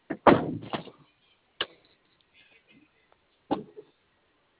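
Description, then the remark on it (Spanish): A door being opened: a rattling clunk and scrape of the latch and hinges, followed by a few sharper knocks spaced out over several seconds, with quiet stretches between. “Esa es mi mapa para que me vea la apertura de la puerta, ¿no?”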